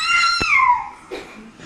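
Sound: baby crying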